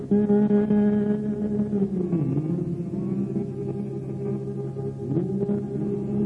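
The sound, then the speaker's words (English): An audience with heads bowed hums a slow hymn together, holding long, low sustained notes that glide gently between pitches. The sound stays steady and moderately loud throughout, with no words. “While we have our heads bowed, let's hum this.”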